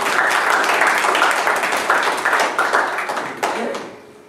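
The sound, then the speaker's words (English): A crowd applauds to give the Lord a hand, many hands clapping in a dense, continuous patter that rises and falls slightly before tapering off at the end. “Give the Lord a hand of applause in the house.”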